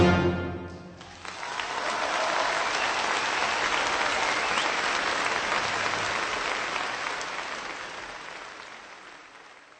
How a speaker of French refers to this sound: Vous avez tout d'abord entendu de la musique, puis les applaudissements succédant à la musique. L'instrumentiste ou le chef d'orchestre, tout l'orchestre, est récompensé.